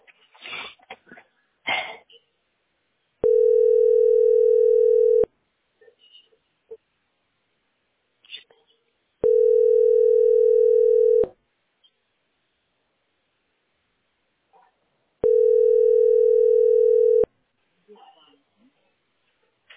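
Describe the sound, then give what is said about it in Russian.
Three loud, steady telephone ringing tones, each a flat mid-pitched buzz lasting about two seconds, repeating at even intervals, with brief faint noises and murmurs in the gaps between them. “Нет, тот же звонок.”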